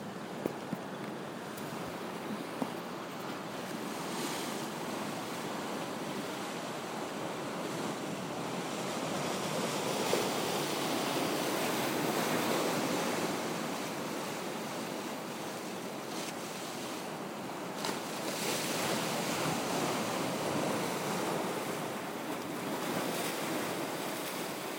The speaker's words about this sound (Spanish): queríamos enseñaros el ruido que hace el mar.